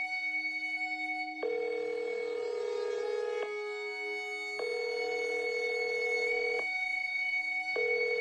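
A telephone rings in repeated electronic bursts, a steady tonal trill starting and stopping in an even pattern, clear with no talking, before an answering machine picks up.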